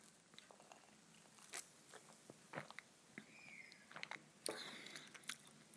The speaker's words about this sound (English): Now, as a flat white, I just wonder what it's going to taste like. So, I'm going in for my first sip.